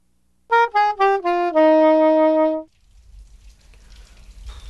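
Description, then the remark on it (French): A few descending musical notes ring out, then give way to a steady hiss of rain falling on Belle-Île-en-Mer in Brittany, where it has rained for three days, soft at first and gradually growing louder, with a low rumble beneath. “Ça fait 3 jours qu'il pleut.”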